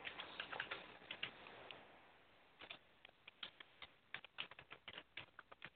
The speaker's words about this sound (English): Typing as fast as I can.